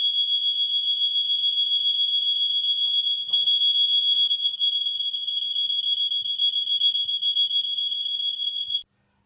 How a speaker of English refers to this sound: okay, we have an alarm. We'll have to take a break.